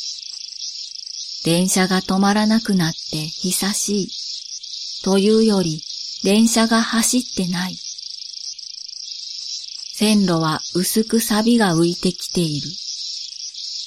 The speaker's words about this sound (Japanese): 誰もいない町で、じゃあじゃあと、セミの鳴き声ばかり聞こえる。